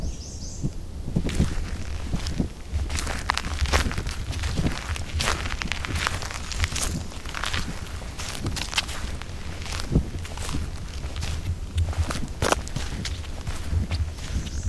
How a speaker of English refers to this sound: from Tamarack National Wildlife Refuge, and today we're hiking on the Old Indian Trail.